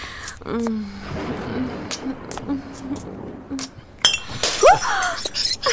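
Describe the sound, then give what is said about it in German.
Glass clinks and knocks as a bottle of Veuve Clicquot champagne, a '32 vintage, is handled, a few sharp bright taps scattered over several seconds, with murmured voices and shuffling underneath. “Was war das, Isaak? Der Champagner.”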